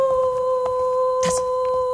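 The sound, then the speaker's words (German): An eerie, unbroken howl coming from the east wing holds two steady tones throughout, sounding hollow and unnatural, while brief scratchy bursts of noise flicker over it and one louder hiss flares up partway through. “Heule hört sich ja furchtbar an.”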